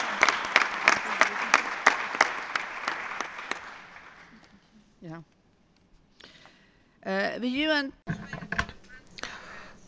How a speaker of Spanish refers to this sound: Vamos a darle un aplauso a los colegas del examen por pares.